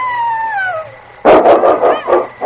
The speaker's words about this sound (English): That was a wolf, and King's going to meet it.